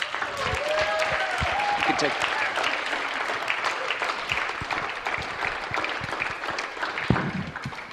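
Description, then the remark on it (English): A church audience stands and claps steadily for a guest pastor for the full stretch, a dense, even wash of many hands with sharper individual claps poking through, and a few voices or whoops rising briefly near the start. “So why don't you stand to your feet and give him a round of applause.”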